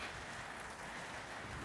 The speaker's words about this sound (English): See, it's the power of the rain.